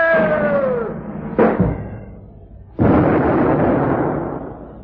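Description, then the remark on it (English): A cannon pointed toward the sky fires a human cannonball straight up: a booming shot, with a sharp blast cutting through a fading rumble and then a second loud roaring burst that sustains and slowly decays. No talking is heard. “And gentlemen, I'm about to be shot right up! Oh. Good heavens! They're pointing the cannon towards the sky!”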